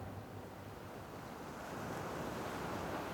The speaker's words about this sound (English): It is the sound of the ocean, waves lapping at the shore.